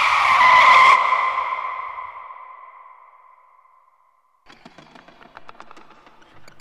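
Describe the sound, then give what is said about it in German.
A car skids as a running man collides with it, a loud, piercing tire squeal that slowly fades over several seconds, followed by a brief silence and then faint scattered crackling and rattling. “Stopp! Das Auto. Er rennt in das Auto.”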